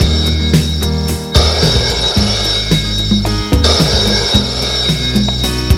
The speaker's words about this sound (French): Le téléphone a retenti.